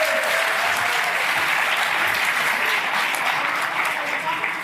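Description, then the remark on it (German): A crowd claps steadily for several seconds, a dense, sustained burst of applause that stays loud throughout before easing slightly at the end. “Bitte Applaus.”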